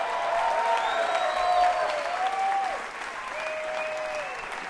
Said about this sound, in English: How about a nice round of applause at the piano for ….